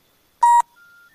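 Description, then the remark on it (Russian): A short, loud electronic telephone tone sounds alone, followed by softer, steady beeps stepping up in pitch, like the signal tones on a phone line, on a call to a number that does not answer. “Номер не отвечает. То есть взяли, включили записи, бросили трубку.”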